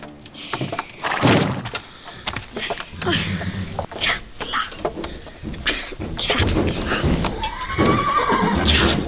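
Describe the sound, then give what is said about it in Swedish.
A horse named Fiala whinnies and snorts in several loud, shaky bursts, with dull thumps and shuffling in between and a final rising neigh near the end. “Vem behöver 15 vita hästar när man har dig, Fiala?”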